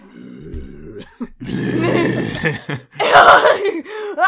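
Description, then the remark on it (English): A person makes a loud, guttural burping growl, two rough drawn-out bursts separated by a short pause, with a few smaller throaty noises around them. “Yeah, do your burping growl thing again.”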